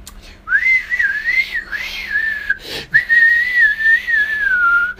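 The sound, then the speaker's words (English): A person whistles in imitation of aggressive flute playing: a loud, sustained, wavering high tone with quick trills, broken once by a sharp breath before it carries on. “So he's wearing that and he's playing the flute aggressively with ZZ Top glasses on, staring at me, just going.”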